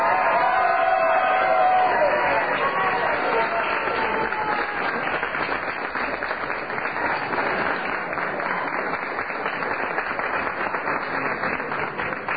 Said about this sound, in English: A very enthusiastic crowd here, as you can hear.